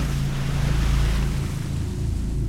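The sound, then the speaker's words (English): Loud, continuous rush of ocean waves crashing, water churning and splashing, with a steady low rumble beneath the wash and no voices. “Water sprayed across me and then the waves engulfed me and sent me turning over and over.”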